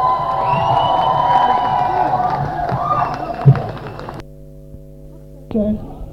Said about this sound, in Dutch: Achter de geluidswagen, het podium, staan allemaal vrouwen te roepen dat ze gestopt moet worden.